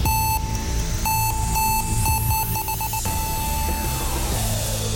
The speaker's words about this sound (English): Timer, 5 seconds, write it down.